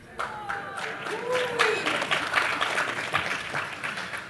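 An audience bursts into applause, a dense, steady clatter of many hands clapping for about four seconds, with a few voices cheering and whooping through it.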